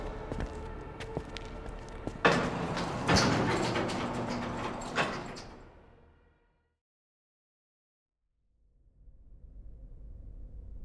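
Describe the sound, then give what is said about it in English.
Elevator doors slide shut with a rushing mechanical swoosh and a soft clunk, followed by a brief silence and then a low, steady hum. “The man in gray watched as August and the wolf followed Weston back into the elevator.”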